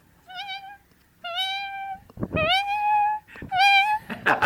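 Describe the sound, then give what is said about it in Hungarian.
A person's voice imitates a cat, giving four drawn-out, rising-and-falling meows in quick succession, fairly loud, with the last two longer and more insistent. “A macska.”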